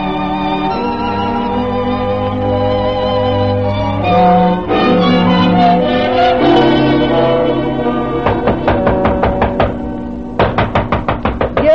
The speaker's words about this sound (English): that's no call to be pounding on me door so hard that the divil himself would rise up to be counted